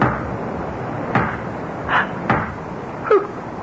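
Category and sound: household object, door opening or closing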